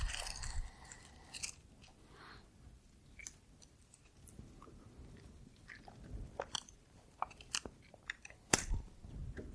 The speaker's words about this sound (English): I'll wait till I hear pages stop flipping or phones stop scrolling. Makes a sound, right?